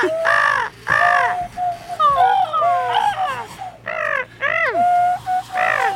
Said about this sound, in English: Wait, there might be a bird in the studio right now. I've actually just seen a bird.